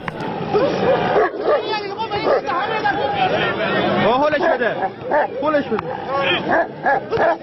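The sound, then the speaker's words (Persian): Dogs bark, yip and whimper during a dog fight in Zanjan, where owners set two dogs against each other at a whistle, amid a noisy crowd of chattering voices, the sounds dense and continuous with sharp bursts rising over the hubbub. “در این نبرد خونین، صاحبان دو سگ با نواخته شدن سوت مسابقه حیوانات را به جان هم می‌اندازند و با تحریک کردن آنها در نهایت صحنه دلخراشی شکل می‌گیرد که خبرگزاری تسنیم آن را به یک فیلم سینمایی تشبیه کرده است.”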